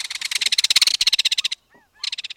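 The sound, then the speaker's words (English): A loud, harsh rattling call of kingfishers disputing and chasing one another through madrona trees near the shore of a bay, a rapid dry series of clicking notes that runs for over a second, breaks off briefly, then starts up again. “Near the shore, disputing kingfishers rattle in their mercenary manner, chasing one another through the madronas.”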